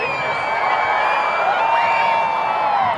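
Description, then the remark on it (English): A large crowd at Saluki Stadium, Southern Illinois University, cheers and screams continuously as a total solar eclipse reaches totality, a dense, loud wall of many voices with rising whoops and shrieks layered on top, sustained for the whole three seconds. “people were cheering, people were screaming when we reached totality.”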